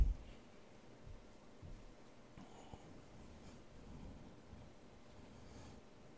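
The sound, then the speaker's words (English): Soft, scattered rustling of Bible pages being turned as listeners turn to John chapter 19. Several faint papery flutters overlap against a low background murmur, with no one speaking. “Since I hear some pages turning, once you get there, say amen.”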